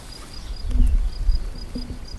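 Faint outdoor ambience with insects: a thin, repeating high-pitched chirp of birds and a couple of brief low buzzes of flies passing by, over a soft low rumble.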